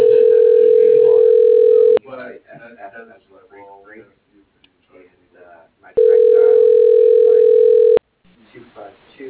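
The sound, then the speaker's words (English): Two loud, steady two-second bursts of an outgoing phone call's ringback tone, a flat buzzing hum separated by a pause of about four seconds, with a person talking in the gaps; the call is to Debbie Manis and Sons Well Drilling. “I'm calling Carden.”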